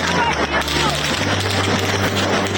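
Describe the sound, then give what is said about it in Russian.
Scattered gunshots, fired into the air to disperse a crowd, crack out amid the constant roar of a large, agitated crowd outside a window, the shots partly buried under the shouting and murmur of many voices. “И вот, пока мы разговаривали, раздались первые выстрелы.”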